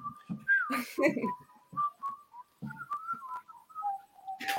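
A person whistles a short, wavering tune, the notes sliding up and down and broken by breathy puffs and small pauses.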